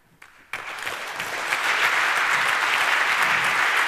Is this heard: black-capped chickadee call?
no